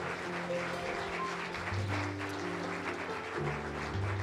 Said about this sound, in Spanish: Dios es bueno, hermano. Denle un aplauso a Dios. Let's just give the Lord a hand. Hallelujah.